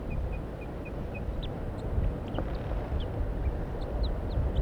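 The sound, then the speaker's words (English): A wild bird up in a pine tree gives a series of soft, high, evenly spaced calls, soft alarm calls and toops, then scattered brief chirps, over a steady rumbling outdoor background. “Pointed at the wild bird now. He's up in the pine tree.”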